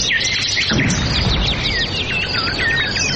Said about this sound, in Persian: شنونده های عزیز سلام، درب برنامه رو می گوشاییم و پرواز پرندگان را به تماشا می نشینیم که از بیم تفنگ شکارچیان در حال پروازند.